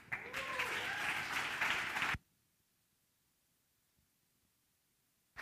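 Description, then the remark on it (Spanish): A crowd at an Espacio 316 gathering breaks into loud, dense applause for a speaker who thanked the association's volunteers, lasting about two seconds, then it cuts off abruptly into near silence before the clapping bursts back in at the very end. “Más fuerte el aplauso”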